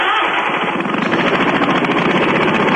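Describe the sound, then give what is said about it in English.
A small engine runs loud, its rapid sputtering pulses filling the whole stretch with a harsh, buzzing roar that stays steady throughout. “Yeah, that's a small freaking threatened engine. I'm polluting the atmosphere.”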